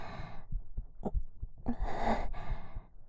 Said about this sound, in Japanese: 心臓の音聞こえる。